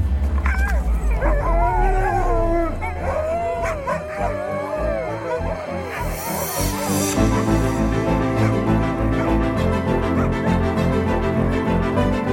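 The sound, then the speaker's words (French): A pack of sled dogs howls and yips together, with overlapping wavering howls, then barking continues over a steady droning background. “Avec ski, traîneau et chien, bien entendu.”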